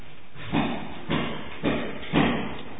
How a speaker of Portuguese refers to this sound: Sabe o que, que acontece? Esse martelo aqui, ó. Quer ver?